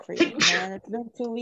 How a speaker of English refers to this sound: Bless you